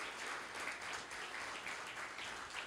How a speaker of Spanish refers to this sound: ¿No le dan un aplauso al Señor por eso?